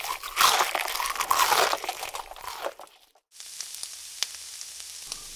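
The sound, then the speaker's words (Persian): Chicken for crispy fried chicken sizzles and crackles in hot oil as the pieces are turned over, a loud, dense hiss with popping for about three seconds, a brief pause, then a steadier, softer sizzle with occasional sharp pops. “خب مرغا رو برگردوندم. مواظب باشین روغن رو دستتون نریزه دیگه، آروم و با حوصله.”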